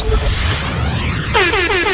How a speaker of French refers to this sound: Mon alarme.